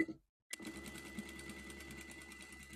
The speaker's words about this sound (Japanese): ちょっとミシンの方が。 うん。大丈夫だと思うよ。 拾ってない？ うん、あの多少聞こえるけど。